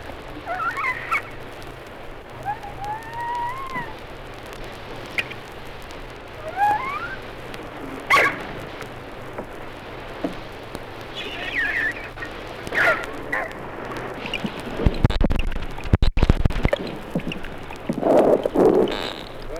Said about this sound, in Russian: Звуки белуги при захвате пищи.